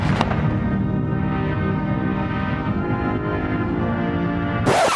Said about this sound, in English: As the sun set over Washington Monday, President Bush's coffin arrived at the Capitol. A hero's welcome heralded by cannons and a 21-gun salute.